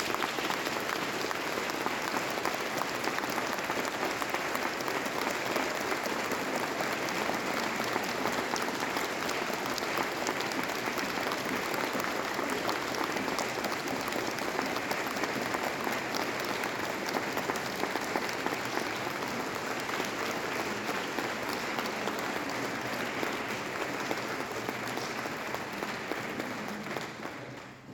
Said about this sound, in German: Und jetzt aber nochmal für alle den großen Applaus. Dankeschön.